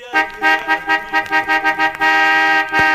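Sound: car horn honking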